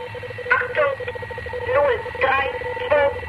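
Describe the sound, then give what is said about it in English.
A shortwave number station recording from the Conant Project's Number Station recordings: a narrow, static-laced radio signal with a steady droning tone, and a distorted voice breaking through in short, evenly spaced bursts. “backed by the Conant Project's Number Station recordings, which you hear behind us now.”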